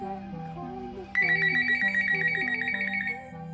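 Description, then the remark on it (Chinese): A pet parrot mimics a grandfather's retro mobile phone ringtone, learned from hearing it ring: a clear, stepped electronic-style melody of repeating notes, joined partway through by a brighter, shrill whistling layer, loud with no talking. “于是他就专门学会了手机铃声，希望这样就能有人类和自己说话了。”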